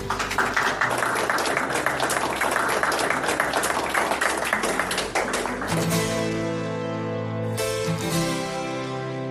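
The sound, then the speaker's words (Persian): A crowd applauds steadily with dense, continuous clapping for about six seconds, then the clapping fades as sustained music with a bright melodic line takes over. “نو بیا هم تاسو ټول نډیر مننه چې رالی د زما لپاره د ویاړو د تشویق زه ډیر زیات مننه.”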